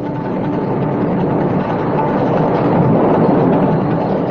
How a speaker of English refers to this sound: Within a moment, the whole sky was overcast with dense clouds, and severe thundering was heard. There was glittering electric lightning and severe rainfall.